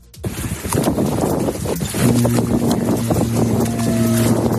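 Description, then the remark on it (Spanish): A Russian submarine, the most modern of Putin's fleet, sailing out for the first time: a loud, steady rush of churning water and wind, joined partway through by a sustained low mechanical drone with a faint higher whine. No one speaks. “Bueno, pues así sonaba la primera vez que salió a navegar hace tan solo un año”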